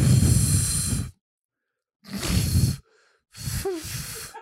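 Three breathy bursts of air blown into a microphone by someone trying and failing to whistle, each about a second long with short silent gaps; the last one carries a faint wavering tonal squeak before fading back into plain rushing breath.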